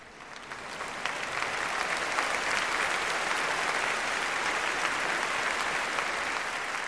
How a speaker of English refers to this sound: The crowd exploded in a roaring ovation, everyone waving their handkerchiefs at their beloved author. Dickens blew them a kiss and left the stage with tears rolling down his face.